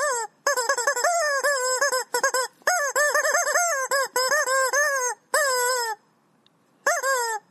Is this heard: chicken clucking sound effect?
yes